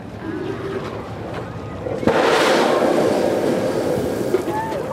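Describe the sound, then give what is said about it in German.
A steady rumbling murmur gives way, about two seconds in, to a sudden loud roaring hiss as a jet of steam bursts from an artificial geyser on Lanzarote after a park worker pours a bucket of water into a tube set in the ground, rushing on to the end. “Und Sekunden später ein Wasserdampfstrahl fauchend in die Höhe schießt.”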